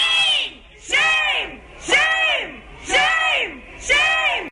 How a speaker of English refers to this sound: And they're screaming abolish ICE.